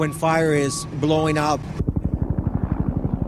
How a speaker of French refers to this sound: On entend juste l'incessant survol des hélicoptères luttant contre les flammes.